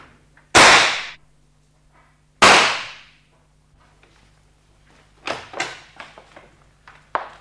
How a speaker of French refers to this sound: Vous tirez des coups de revolver dans le salon, maintenant? N'ayez pas peur, c'était le deuxième et dernier coup.